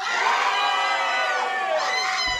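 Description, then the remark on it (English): The right half of an audience shouts and cheers loudly in a sustained, dense roar of many voices, with high whoops and yells rising above it for the full couple of seconds. “I now want the right half to shout and cheer a lot louder than that.”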